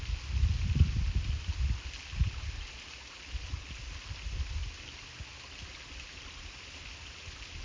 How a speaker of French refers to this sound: Assise au milieu du lit de la rivière est presque tarie. La cascade coule à peine. Sentez le passage de l'eau. Sentez l'absence de l'eau.